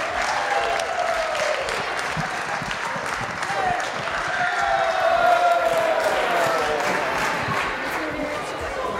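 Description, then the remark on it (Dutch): Steady, loud applause from a crowd for the first-place winner at a prize-giving, dense clapping with a few cheers and whoops mixed in, swelling slightly in the middle before holding level. “Groot applaus voor nummer 1.”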